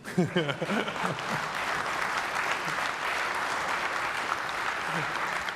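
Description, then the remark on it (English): An audience at a tech presentation applauds steadily after a demo of a natively compiled C# application running on Linux with .NET Core, a dense wash of clapping that holds at an even level throughout. A voice speaks briefly at the start, then the clapping continues alone. “So I'm going to go ahead and just pull that applause from you.”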